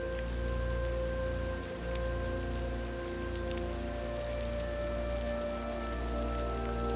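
Steady rain falls continuously outside an open door onto a garden with trees and rocks, a dense patter of drops on surfaces with occasional splashes, over a low constant hum and faint tonal drones in the background.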